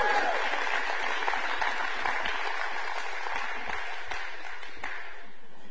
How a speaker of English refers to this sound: All right, with the same enthusiasm, let's clap for tithes and offerings, please.